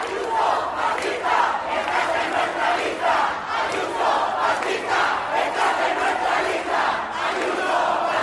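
A large protest crowd at a demonstration in Madrid condemning the killing of Samuel in La Coruña chants a slogan in unison, voices rising and falling in a steady rhythmic pattern, loud and continuous throughout with no single speaker standing out.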